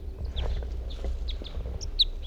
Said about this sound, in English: That was a male who was singing right next to the net side here somewhere. Here he is again.